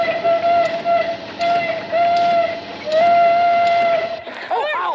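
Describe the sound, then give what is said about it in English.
A steam engine's whistle, sounded by pumping the whistle string, blows in a string of about five loud, steady, high-pitched blasts, the final one held longest, with brief excited voices breaking in right after. “Jesse pumps the whistle string.”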